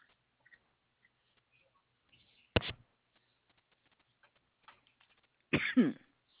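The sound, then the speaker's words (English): Two short coughs break an otherwise quiet stretch, one brief burst early and a fuller, throatier cough near the end, both fairly loud against faint background ticking. “No, I was just a little cough there.”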